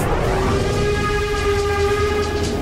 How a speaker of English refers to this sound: This is a steam train. It's powered by coal. That's a type of fossil fuel.